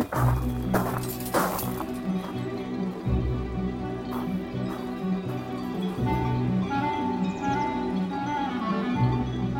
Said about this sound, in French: Parce que là, on entend un peu plus bas les vaches, mais se mêle aussi donc le son des sonnailles que nous avons, parce que pas très loin, donc on a des moutons.